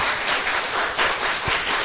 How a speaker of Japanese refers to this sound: まず拍手を持って大坪先生に感謝をしたいと思います。どうもありがとうございました。